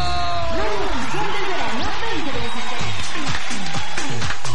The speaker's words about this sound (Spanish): ¡El aplauso!